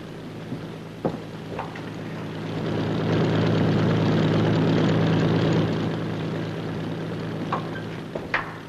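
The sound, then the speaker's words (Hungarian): A propeller airplane engine of an enemy aircraft drones overhead, a steady low hum that swells louder in the middle and then slowly recedes, with a few faint clicks and knocks. “Repülőgépfúgás.”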